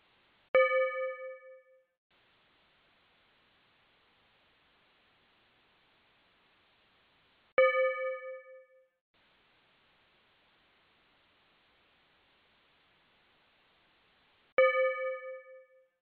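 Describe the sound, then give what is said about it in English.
Three clear chime timer tones for a breakout group session ring out at even intervals about seven seconds apart, each a bright struck note that decays over a second or so, with faint hiss between them and no talking. “I'll give you the tones just like last time, and you're in your breakouts now.”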